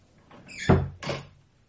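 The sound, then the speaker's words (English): A door swings shut with a solid low thud, followed a moment later by a second, brighter clack as it latches. Both are brief and fairly loud, with no voices. “Close the door, please.”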